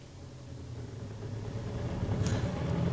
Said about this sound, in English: There's a car coming up behind us, Inspector. It's our old friend Clarence Gordon on his weekly run. I'll wave him on.